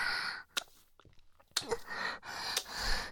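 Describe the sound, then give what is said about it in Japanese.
Wet sucking and swallowing sounds of a baby gulping milk repeat in short bursts with brief pauses between them, with no talking. “いっぱいごくごくして大きくなるんでちゅよ。”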